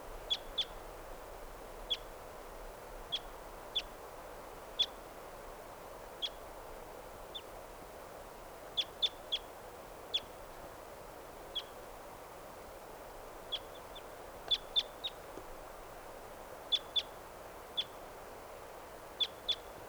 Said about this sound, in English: Well, there are three, yeah, just two birds. Yep. 5:58, here's that same wild bird.